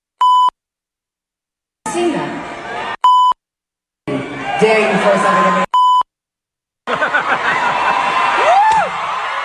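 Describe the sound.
Three short, loud censor bleeps, each a steady electronic tone, blank out a singer's swearing as she speaks from the stage to a noisy concert crowd, cutting in between bursts of her voice, with brief silences around them.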